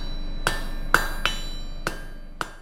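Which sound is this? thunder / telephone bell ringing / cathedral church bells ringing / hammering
hammering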